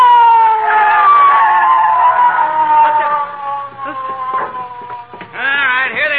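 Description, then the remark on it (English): A police siren wails loudly, one long tone sliding slowly downward, then breaking into a quick, warbling rise and fall near the end. “McGee, I hear a siren. Oh, so do I. It's the police, McGee.”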